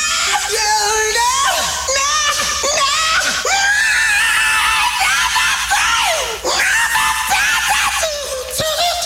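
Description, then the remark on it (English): Loud, high-pitched screaming goes on almost without pause for several seconds, with pitch that swoops up and down and only brief catches for breath. It is intense, with no talking. “The future rocker came into the world in the same way he would eventually spend his life, screaming.”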